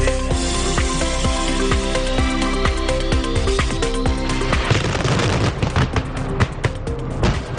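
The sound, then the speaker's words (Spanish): The Castell de l'Olla fireworks in Altea explode in a rapid, continuous barrage of loud bangs and crackles, growing denser toward the end, with a steady tonal hum that may be music running underneath. “Los fuegos artificiales del Castell de l'Olla hacen que Altea sea un destino a los que muchos miran de cara a este fin de semana.”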